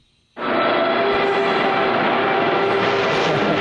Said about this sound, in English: I didn't even know we had a car taking off. Why do we have a car taking off? It's not a car.